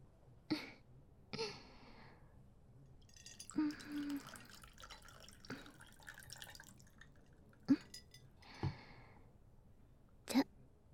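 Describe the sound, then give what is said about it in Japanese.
Tequila being poured into glasses, heard as short splashes and gurgles separated by pauses, with a few drip-like ticks and no talking. “じゃ、それ開けちゃって。今注ぐから。”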